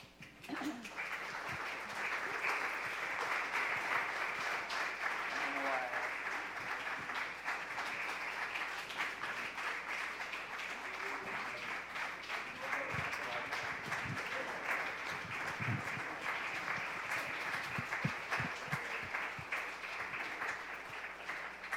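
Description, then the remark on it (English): A large church audience applauds warmly, dense steady clapping filling the room for about twenty seconds without fading, with faint scattered voices beneath it. “That clap is for Jesus, right?”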